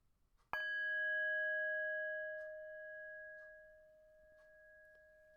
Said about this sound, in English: This version will use meditation. And so we will begin with the bell.